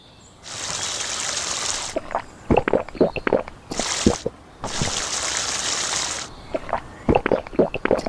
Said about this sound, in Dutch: Nummer 5. De mond drie keer spoelen.